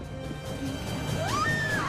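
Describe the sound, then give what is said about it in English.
A drinking glass is thrown down and smashes inside a casino after its drink is poured out, the crash sitting in a dense, noisy wash of sound with a high rising whine sweeping through near the end. “Sal goes to sip, then pours out the drink and throws down the glass.”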